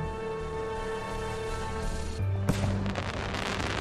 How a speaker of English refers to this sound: But anyway, it's Guy Fawkes night. We're in London. And there's all these fireworks everywhere, so folks kind of aren't noticing this alien invasion.